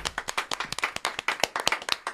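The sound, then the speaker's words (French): A small group claps steadily for a couple of seconds for a singer after her song, a dense patter of quick overlapping hand claps with no voices. “Je pense qu'on peut l'applaudir.”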